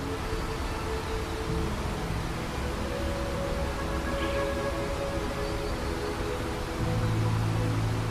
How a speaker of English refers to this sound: Tiz Isat, smoking water. During the rainy season, the falls span 400 meters. Water thunders over the edge. Mist rises like smoke. The roar is constant, deafening.